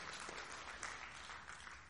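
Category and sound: crowd, audience clapping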